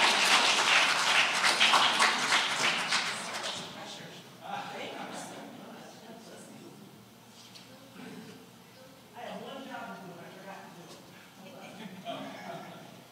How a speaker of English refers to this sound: and we are so honored to welcome you this morning. Would you give another round of applause for our guest